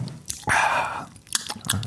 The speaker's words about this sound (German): Ich nippe mal kurz an meinem Traubensaft. Ja. Kannst du das bitte deutlich machen, sodass jeder das hört?